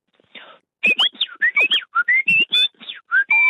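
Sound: human whistling imitating birdsong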